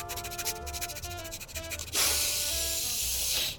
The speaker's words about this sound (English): See if you can figure out what the paint is made of. It doesn't look like regular paint to me. Here I go, sniffing time.